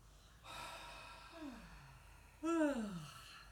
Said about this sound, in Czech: Pokud je tam zívnutí, tak si ho dopřejte naplno. Zazívá.